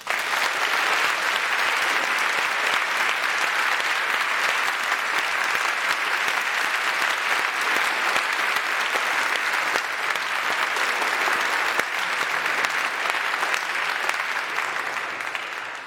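Sustained applause from a large audience welcoming their new pastor, a dense, steady clatter of many hands clapping at an even loudness for about sixteen seconds before easing slightly at the end, with no one speaking.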